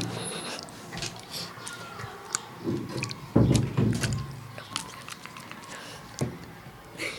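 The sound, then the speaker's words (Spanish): Water sloshing and splashing in irregular bursts, with scattered crackly drips and one louder, fuller surge partway through before it settles back to softer splashes. “Esto es agua.”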